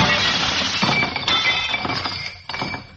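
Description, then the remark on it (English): A baseball crashes through a laboratory window: glass shatters loudly, crashing and then tinkling as shards rain down and scatter for a few seconds, with no voices present. “baseball crashed through the window of my laboratory.”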